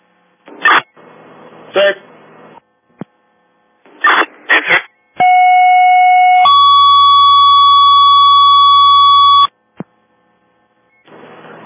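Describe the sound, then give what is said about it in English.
Fire department second-alarm tones for a reported bedroom fire with smoke showing from the third floor: a steady electronic tone, then a second longer tone, both loud and clear over a faint hum, with short bursts of radio static before and after. “All right, Jimmy, tap out a second alarm”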